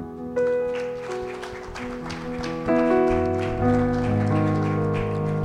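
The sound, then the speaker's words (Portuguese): A church audience claps for the Lord after a prayer, a dense, rain-like patter while sustained keyboard chords ring underneath, the applause continuing at an even volume throughout. “Aplauda ao Senhor.”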